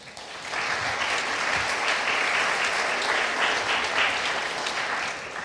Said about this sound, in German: Und ich finde, sie hat auch mal irgendwie einen Applaus verdient.